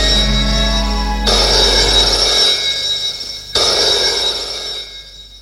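A telephone rings twice with an incoming call, in sharp, buzzing bursts separated by a short pause. The rings are loud, with only a faint low hum beneath and no one speaking.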